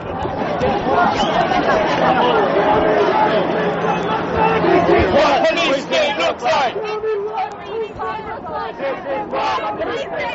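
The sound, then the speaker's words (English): A dense crowd of many overlapping voices chatters and shouts loudly and continuously at the conclusion of a protest during the Republican convention, a steady babble with occasional raised cries rising above it, easing slightly toward the end. “Okay, and that's some of the sound that we recorded at the conclusion of one of the many protests that happened during the Republican convention last week”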